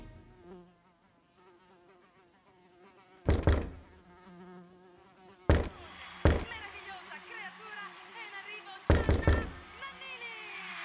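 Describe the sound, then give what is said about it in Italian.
A housefly buzzes steadily on a sunny afternoon, its whine wavering in pitch throughout, while four loud, sharp knocks on a door break in at irregular intervals. “Pomeriggio assolato, di quelli che anche il ronzio di una mosca può risultare fastidioso.”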